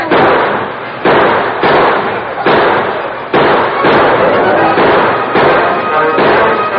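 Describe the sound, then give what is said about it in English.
A rapid exchange of gunfire between riders firing as they ride and a sheriff and his deputies returning fire from behind sheltering rocks: about eight or nine loud, sharp shots in quick, uneven succession, each with a harsh ringing tail that runs into the next. No voices are heard. “They fired as they rode, but their bullets splattered harmlessly off rocks that sheltered the lawmen.”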